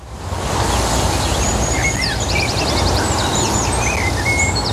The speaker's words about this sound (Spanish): Da gusto, ¿verdad?, este sonido. Escuchar a los pajaritos cantar, este paisaje completamente verde